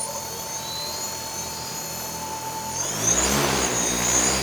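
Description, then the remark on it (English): A steady high-pitched motor whine from a tethered drone, a flying cell tower, with its tether plugged in, in Forest County, Wisconsin. The whine swells sharply louder and harsher around three seconds in as the rotors spin up, buzzing like small aircraft propellers. “Tether plug into the drone.”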